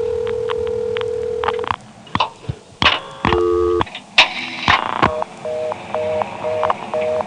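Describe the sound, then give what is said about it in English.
Telephone exchange tones from New Bern, recorded through a microphone in 1974: a steady dial tone, a burst of clicks and stacked dialing tones, then a run of short repeating beeps over faint room hiss. “then of course there was New Bern, which I had to record with a microphone in 1974 since they didn't have Northern Telecom Centurion phones yet.”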